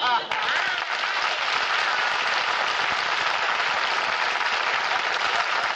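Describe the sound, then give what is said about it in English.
Steady, sustained audience applause fills the whole stretch, a dense wash of many hands clapping at an even loudness with no pauses and no voices standing out. “It says in the script I should come out, look adorable, and get applause.”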